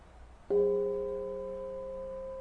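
A hand bell is struck once and rings out with a deep, low tone, its steady overtones humming and slowly fading over the following seconds with no other sound.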